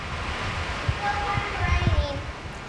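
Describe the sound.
Hard rain pours down in a dense, steady hiss, with a few soft low thumps and a faint murmuring voice barely showing through the downpour.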